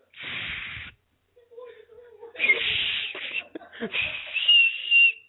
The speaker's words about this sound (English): I'm like a referee. Wow, I got an Oscar Mayer wiener whistle.